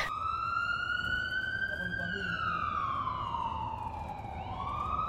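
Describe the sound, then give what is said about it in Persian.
An ambulance siren wails loudly, its pitch gliding slowly up and then down in one long sweep over a steady rumble of traffic. “اینقدر بدحال بودم که با آمبولانس تماس گرفتیم.”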